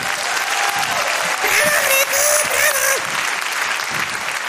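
Sustained applause from an audience, a dense steady wash of clapping at a fairly loud, even level, with faint voices and a few whistles rising above it.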